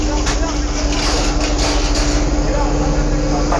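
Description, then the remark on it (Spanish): Engines of heavy public-order riot-control vehicles of the Carabineros police idle here in a loud, steady, unbroken rumble with a constant low hum, faint indistinct voices mixed underneath throughout. “El sonido que ustedes escuchan son los motores de los vehículos de control de orden público que están acá justamente.”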